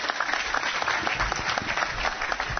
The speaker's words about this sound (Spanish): Esta mujer, dele un aplauso por favor.